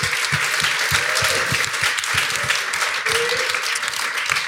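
Steady applause from an audience at the Barbican, a dense wash of many hands clapping at an even loudness throughout, with faint voices and a brief whoop rising out of the crowd.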